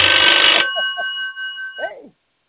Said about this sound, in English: Uh-oh, the phone ring.